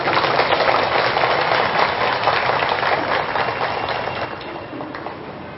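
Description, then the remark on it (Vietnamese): Sustained applause from an audience of Buddhist followers, given to show their commitment, a dense crackle of many hands clapping that stays steady and loud before gradually thinning and fading toward the end. “Xin các quý Phật tử hãy dâng cao tràng vỗ tay để thể hiện sự cam kết.”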